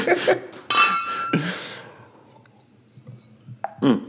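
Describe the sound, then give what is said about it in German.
Beer glasses clink together in a toast, two bright ringing knocks close together, followed by quieter handling clatter and a faint murmur of voices. “In dem Sinne Prost.”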